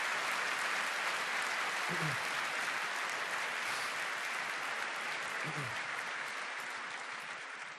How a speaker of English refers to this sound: And maybe we should just spend a short applause to those who did the organization this year.